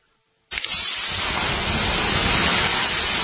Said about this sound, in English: Hear that? The sound of water being poured on 800-degree rocks. If you were here in this sauna, you'd be so hot you wouldn't have the energy to move.